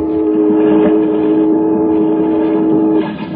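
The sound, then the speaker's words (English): An early steamboat, the world's first on the Hudson, sounds one long, steady low whistle blast over the churning rumble of its engine, loud, cutting off just before the end with no voices. “And the world's first steamboat on the Hudson.”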